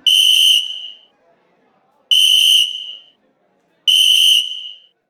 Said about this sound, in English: But just as I wheel around to face the customers, some old femme with a face like a cinder block blows a silver medal referee's whistle as hard as she can.